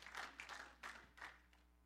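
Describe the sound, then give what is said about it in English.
A crowd of people clapping their hands together in a church as a clap offering to the Lord, the applause coming in uneven swells over a couple of seconds, fairly quiet and diffuse, with no voices standing out. “Give the Lord a clap offering here.”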